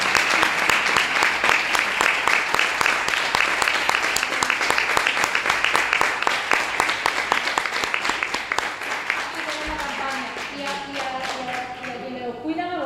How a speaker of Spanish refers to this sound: Un aplauso a todo el equipo. A todo el equipo.